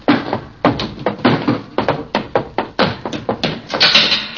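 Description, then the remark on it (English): A theater exit door clatters and thumps over and over, a quick irregular series of loud knocks and rattles as it is pushed and pulled open and shut, with no voices. “I should have remembered that theater exit doors always open from the inside.”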